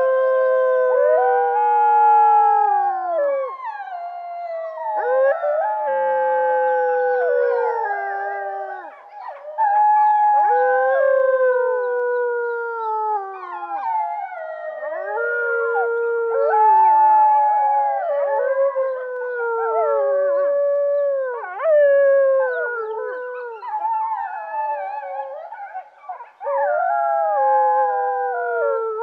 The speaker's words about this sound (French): Maintenant, les enfants, si vous voulez en savoir plus, écoutez d'abord le vrai chant des loups.